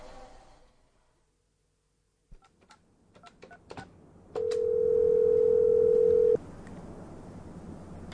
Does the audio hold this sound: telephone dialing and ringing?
yes